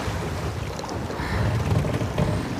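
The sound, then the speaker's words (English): Steady roar of strong storm wind with choppy ocean water and high waves churning underneath, loud throughout, with deep low rumble and bursts of splashing texture; no voices. “And the water is so choppy from the sneeze and the storm.”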